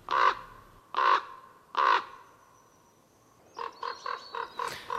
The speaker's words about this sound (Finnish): Pertti Koskimies esitteli viikon luontoäänen korpin.